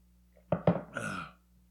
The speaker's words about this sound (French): Je vais prendre une gorgée.